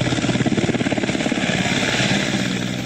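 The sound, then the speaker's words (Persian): A Taliban helicopter rescuing people stranded by floods, its rotor thumping in a fast steady rhythm over a loud, continuous engine whine; the blade beat fades slightly into a broad roar toward the end. “در یک ویدیو دیده می شود که شماری از افراد به سوی هلیکوپتر طالبان می شتابند تا به جای مسئول منتقل شوند.”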